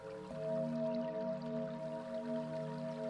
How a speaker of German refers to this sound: Stell dir vor, stehst vor einem Fluss. Du hörst das Plätschern des Wassers. Vielleicht siehst du den Fluss.